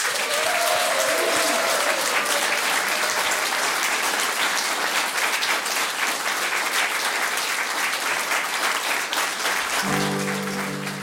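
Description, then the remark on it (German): An audience applauds steadily to thank the participants of a round-table discussion at the Nationalparkzentrum Königsstuhl in Sassnitz, Rügen: a dense wash of many hands clapping at an even loudness for about eleven seconds, with a brief tonal sound near the start and a low hum creeping in at the end. “Und nochmal von harten Danke und großen Applaus für”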